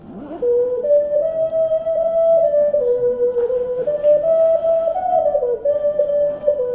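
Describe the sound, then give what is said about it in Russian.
A traditional Dymkovo clay whistle toy plays a sustained, breathy tone that steps between a few nearby pitches with slight warbles, loud, continuing steadily for several seconds with no talking. “Итак, дымковская традиционная. Вот такая свистулечка, да? А вот это работы нашей курганской мастерицы.”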